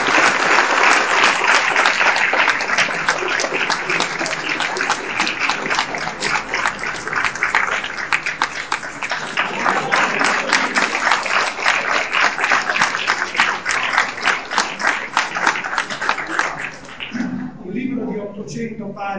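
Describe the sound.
Sustained audience applause at a book presentation, a dense crackle of many hands clapping at steady loudness for around seventeen seconds before fading out, with a voice briefly audible at the end.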